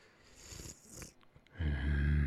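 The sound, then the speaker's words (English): Soft, close breaths exhaled right against the microphone, followed by a louder, low rumbling purr-like sound that fills the end. No words are spoken. “my breath reaches your ear, and you can hear me here, feel my breath and my teeth on the tender ear of yours.”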